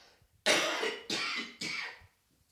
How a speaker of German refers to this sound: Man kann ja, Entschuldigung, ich muss nochmal husten.